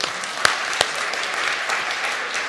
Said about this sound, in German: Also ein Applaus an die Kinder.